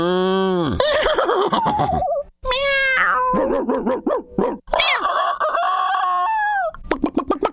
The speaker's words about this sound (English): Yeah, well, down here in the farm, you know, we get all kinds of animals, and that includes, you know, your cows and your horses, and, well, here's a few of them.